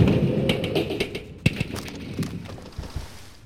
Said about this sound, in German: Mit ohrenbetäubendem Lärm knallte der Oldtimer in den Brunnen. Räder und Radkappen wurden davongesprengt. Die Motorhaube schleuderte meterweit durch die Luft.